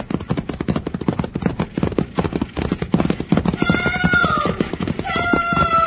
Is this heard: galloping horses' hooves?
yes